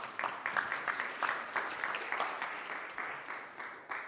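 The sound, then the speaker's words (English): A crowd claps steadily for a church worship team, a dense patter of many hands with a few sharper claps standing out, sustained at an even, moderate loudness for several seconds with no talking. “Go ahead and clap for them.”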